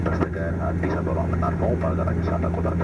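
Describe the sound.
A steady, droning airplane cabin hum with a constant low engine tone fills the space during a flight to the capital Addis Ababa, while muffled voices murmur indistinctly beneath it.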